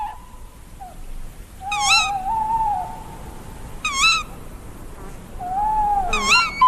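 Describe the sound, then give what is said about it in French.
An owl calls three times at steady intervals, each a quavering, wavering hoot that rises and trembles, over a quiet background of faint night ambience. “connaître les cris des chouettes, les chants des chouettes, des hiboux, bien sûr.”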